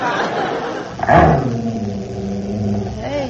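dog growling

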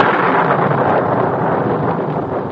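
clap of thunder

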